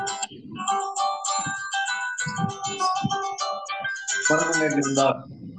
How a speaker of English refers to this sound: Yeah, this somebody is playing music. Could we please have all phones muted?